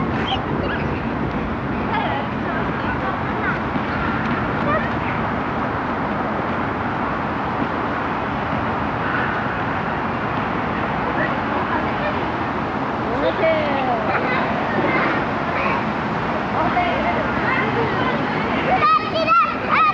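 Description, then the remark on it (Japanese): Children shout and chatter excitedly as they run around playing tag in an open outdoor plaza, a steady, busy wash of young voices with some bird calls mixed into the background. “広場では子供たちが鬼ごっこをしています。”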